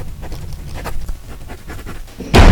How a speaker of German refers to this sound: Auf einmal riss jemand die Tür auf.